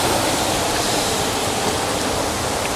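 waterfall

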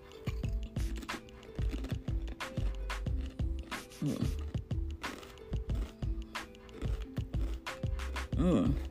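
crunching potato chips

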